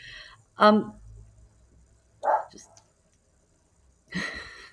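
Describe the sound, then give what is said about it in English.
A couple of dogs bark in three short, sharp bursts a second or two apart, fairly loud, with quiet pauses between and no talking, at home during work from home. “We've got a couple of dogs in the background, which is delightful while we're still working from home.”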